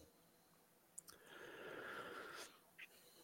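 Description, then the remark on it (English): A strained wheeze as someone gasps for air, a long raspy rush of breath lasting over a second, framed by short clicks and a sharp catch at the end. “is gasping for air right now.”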